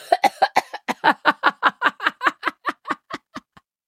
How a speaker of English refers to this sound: I'm going to cough.